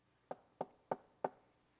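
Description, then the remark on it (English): Four evenly spaced knocks on a wooden door, sharp, in a steady rhythm with quiet gaps between them and no voices. “I am so tired of hearing that knock on the door.”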